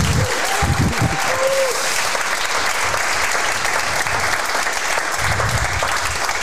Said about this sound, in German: Gibt's direkt den nächsten Applaus.